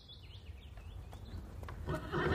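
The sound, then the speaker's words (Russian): A horse whinnies with a high, wavering call early on, then a rising rush of noise suggests a herd of horses moving, growing louder toward the end. “Ох, какой табун лошадей впереди!”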